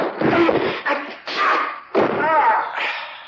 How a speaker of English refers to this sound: Oh, what was that other noise in here? I opened and shut the desk drawers a couple of times to cover your footsteps on the stairs.